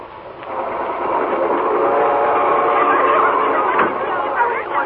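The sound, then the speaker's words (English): A night train bound for Boston rolls steadily along the rails, its continuous rumble and clatter filling the space while indistinct voices murmur faintly beneath it. “On the night train bound for Boston, the unsuspecting Stella lies awake in a lower berth, listening to Laurel stirring restlessly above.”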